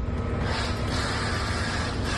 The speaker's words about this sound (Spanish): Así suena una enorme grúa comenzando a montar la noria.